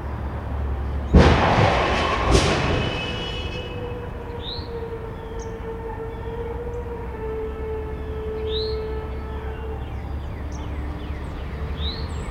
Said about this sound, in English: Here are just a few examples of some of the not-quite-expected sounds I've recorded over the years, including this car crash from March 30th, 2016, recorded at my parents' house.